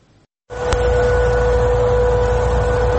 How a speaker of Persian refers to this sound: شنیده شدن صدای آژیر خطر در غرب تهران در نیمه شب جمعه، صدایی که به گفته ساکنان این منطقه نزدیک به 15 دقیقه طول کشید و باعث سردرگمی و نگرانی مردم در غرب پایتخت شد.